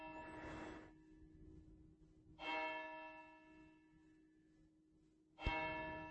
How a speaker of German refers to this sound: Ist echt schön. Was habe ich dieses Glockenläuten vermisst, als hier nach der Flut auch kein Strom, in der Kirche war lange kein Strom, es hat lange nicht geläutet. Das war schon bewegend, als die endlich wieder angefangen haben zu schlagen.